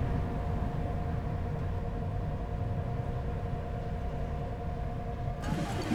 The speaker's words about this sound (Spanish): Sábado 23 de noviembre de 2019, 3 de la tarde. El helicóptero patrulla Bogotá en un nuevo día de protestas.